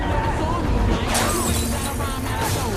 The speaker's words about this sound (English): A cab driver stops to watch the building float. Another car runs into him.